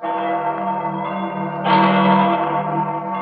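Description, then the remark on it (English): The church bells of St. Peter's in Rome ring together in a continuous, overlapping peal, with rich sustained tones that swell louder partway through and linger with reverberation. No voices are present. “Those are the bells of St. Peter's as we recorded them a few days ago in Rome, a city preparing to receive 2.5 million Roman Catholic pilgrims during 1950.”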